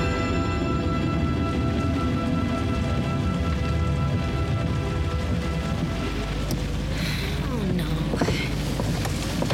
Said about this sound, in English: Wait. Listen. What? I only hear the rain.